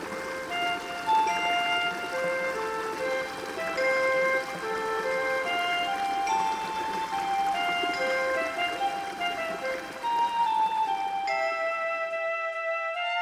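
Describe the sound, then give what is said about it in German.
Steady rushing of flowing river water fills the background while a gentle, chiming melody plays over it; near the end the water noise drops away, leaving only lingering bell-like tones. “Ich schließe die Augen und höre dem Fluss zu.”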